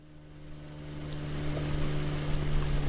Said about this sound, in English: Out on the water, Johnson slows the boat as he heads toward a spot near the shoreline where walleye are spawning.